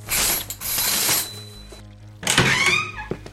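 A door's unlocking mechanism, mounted on the door frame above the door, grinds and ratchets for about a second, goes quiet, then a loud clunk gives way to a rising mechanical whir and a few trailing clicks. No one speaks.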